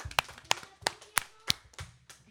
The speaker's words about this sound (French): Un maximum d'applaudissements !